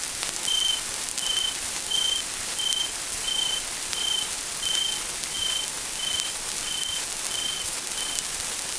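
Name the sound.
cricket chirping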